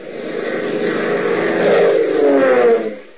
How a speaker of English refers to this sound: Its engines thundering a mighty song of power, a massive DC-4 cargo transport roars through an overcast night sky, carrying six men to a deadly rendezvous.